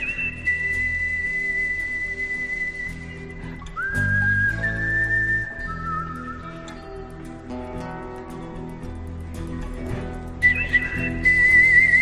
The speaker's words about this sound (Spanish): Hablamos del hombre que puso su silbido al servicio de películas como Por un puñado de dólares o El bueno, el feo y el malo.